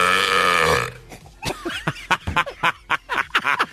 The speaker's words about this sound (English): And guys, I got to tell you, that burp is beatable. Little underwhelming.